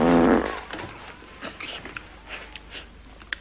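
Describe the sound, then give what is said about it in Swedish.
A short, loud, buzzy fart-like noise made by a sofa as actor Lasse Berghagen, playing a school principal, shifts on it, bursts out right at the start and cuts off within half a second, followed by faint scattered rustles and soft clicks. “Så ja, vrider han på sig så låter det så som en riktig fis.”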